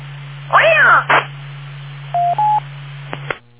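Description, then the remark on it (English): A cat lets out one loud, drawn-out meow, followed by a short rough burst, then two brief electronic phone-dial beeps, all over a steady low hum with a muffled, phone-line quality. “feed your cat.”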